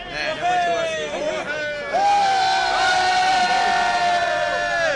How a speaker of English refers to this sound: The crowded subway car almost turned into a party.